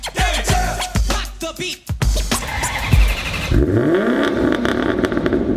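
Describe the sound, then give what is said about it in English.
A car engine revs hard in several loud bursts, with clattering mechanical noise, then settles into a sustained roaring drone with rising and falling pitch, loud throughout. “They're fast and they're furious. Those are the kind of cars you'll see at the 2023 New Hope Automobile Show.”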